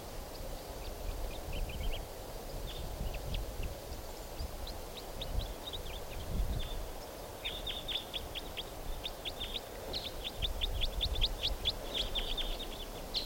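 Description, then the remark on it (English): A type 4 crossbill sings from right above a truck, repeating quick, bright chirps and trills in bursts that grow denser toward the end, over a steady low rumble of outdoor background noise. “Here's a type 4 bird right above the truck in song now.”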